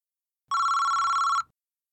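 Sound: telephone ringing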